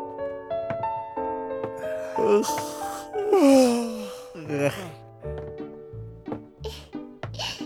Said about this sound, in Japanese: 大きいあくびです。